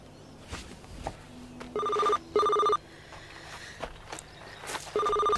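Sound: mobile phone ringing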